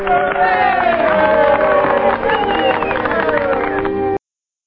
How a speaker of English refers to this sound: Yeah, so that's the people of color cheering there for that sentiment that we've got to do this. We've just got to.